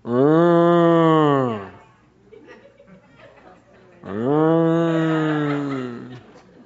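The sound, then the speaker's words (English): A person does two long, loud, drawn-out cow moo imitations, separated by a brief pause with faint background murmuring or chuckling in between. “was that a pretty good cow?”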